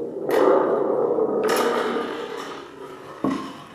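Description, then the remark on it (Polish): A thunderstorm sound made for a film soundtrack at a film workshop: thunder-like rumbling with three sharp cracks, each swelling into a loud, low, sustained roar that fades slowly before the next burst. No one speaks. “Co to był za dźwięk? Burzy.”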